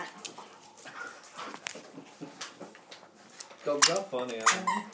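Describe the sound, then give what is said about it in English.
Dogs Daisy and Tilly playing with scuffling, short yips and high, whiny whimpers, growing louder and more drawn out toward the end. “Dogs are playing.”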